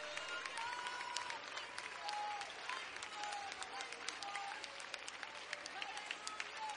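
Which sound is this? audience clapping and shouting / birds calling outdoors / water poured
audience clapping and shouting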